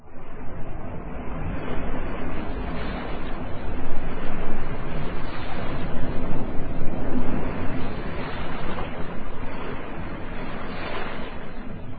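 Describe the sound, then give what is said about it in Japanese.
A strong, steady southeast wind roars over open water at night near Hiroshima, with the wash of waves underneath, a dense continuous rush that swells and eases slightly but never lets up, with no voices present. “その日の夜、夕刻より吹き出した東南の風が、夜を迎えた今、かなりの強さになってきていた。”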